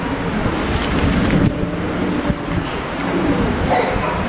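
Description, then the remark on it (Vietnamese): An audience applauds loudly to welcome visitors who came from other provinces, a dense, steady wash of clapping that holds at an even level for several seconds with no voices standing out. “Những anh chị em từ nơi khác đến đây giơ tay, chúng ta hân hoan chào đón những anh chị em ấy một tràng pháo tay thật lớn.”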